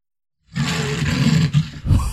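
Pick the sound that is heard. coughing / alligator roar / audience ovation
alligator roar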